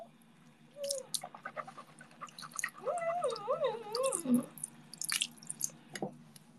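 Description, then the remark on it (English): Wet swishing of mouthwash, with a bubbly gurgle in the middle, then a quick sharp spit near the end. No one speaks. “Okay, I was using mouthwash.”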